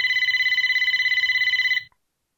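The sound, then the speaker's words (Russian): A telephone rings shrilly in one loud burst, a rapid metallic trill lasting under two seconds before cutting off into silence, with no voices. “Вдруг пронзительно зазвонил телефон.”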